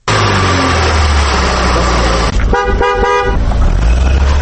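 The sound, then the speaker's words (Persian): Busy city street traffic in Dushanbe, Tajikistan, where about 50,000 cars of various makes drive the roads day and night, with a steady engine rumble; a car horn honks in a few short bursts partway through, loud. “در جاده های آن حدود 50,000 نب های مختلف اتومبیل ها شب و روز حرکت می کنند.”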